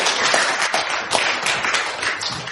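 A crowd applauds steadily, many hands clapping at once in a dense, sustained burst that fills the room without pause.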